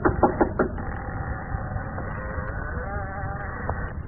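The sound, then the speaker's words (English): Four quick, evenly spaced knocks on a door at the very start, fairly loud, followed by a steady wavering hum with no talking. “I ran into a corner and hid when I heard them knock on my door.”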